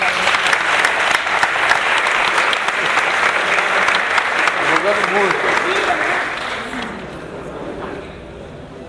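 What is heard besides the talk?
audience applause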